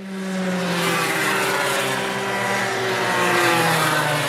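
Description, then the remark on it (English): Small go-karts driven by children aged 5 to 7 from a karting academy at Swartkopf's buzz steadily around a track, several high-pitched motors overlapping in a loud, continuous drone that rises and falls slightly as the karts pass. “A few of her pupils roll around the track.”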